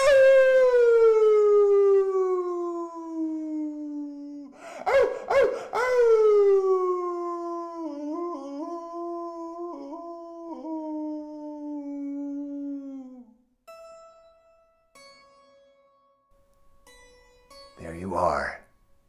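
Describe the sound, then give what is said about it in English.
A group of people, told to be a dog after a count of three, imitate a dog's howl: one long, loud, wavering cry that slides slowly downward in pitch for about thirteen seconds, briefly broken by a noisy burst, then trailing into quieter sounds. “It's not dog mind to think about the howl, okay? We're just going to be a dog on 3.”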